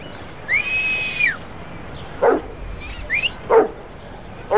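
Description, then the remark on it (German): A dog lets out about three short, sharp barks spaced roughly a second apart, after its owner's long high-pitched whistle and a brief yelp, as it pulls on its leash to get back to him; no talking and a quiet background. “Der Hund kennt den Pfiff. Er will zu seinem Herrn zurück und hat Much fast umgerissen.”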